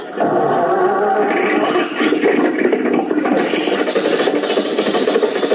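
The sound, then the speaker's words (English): Mr. Benny's old car motor, fitted with a battery taken from his flashlight, grinds and sputters into life in a garage as Rochester starts it, a loud, rough, raspy rumble that runs steadily for several seconds with no one talking over it. “The motor's going.”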